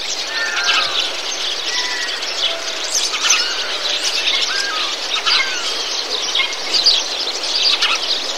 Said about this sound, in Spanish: Una parte cayó por todo el camino, vinieron los pájaros.